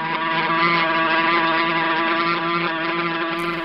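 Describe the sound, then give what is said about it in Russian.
A wasp buzzes in flight, a loud, steady droning hum rich in harmonics that holds an even pitch for the whole few seconds, with no voices. “Это оса. Будь осторожен, Чевостик. Не маши руками.”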